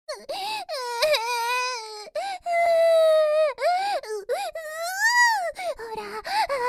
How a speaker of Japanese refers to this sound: 涙はストレス軽減するんです。ほら、一緒にいっぱい泣いて、ついて疲れていっちゃいましょう。